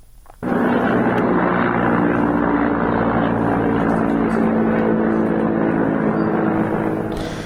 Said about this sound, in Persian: پرواز هلیکوپترها بر فراز شهر مهاباد گزارش شده. تعداد زیادی هم ویدیو که این پرواز هلیکوپترها رو نشون میده منتشر شده. صدایی که از این ویدیوها رو میتونیم بشنویم.